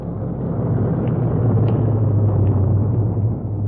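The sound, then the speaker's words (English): Cars drive in through opened overhead doors with a steady, loud engine rumble and a low droning hum that holds for several seconds, broken only by a few faint clicks. No one speaks. “And be ready to pull open the overhead doors for them so they can drive right in.”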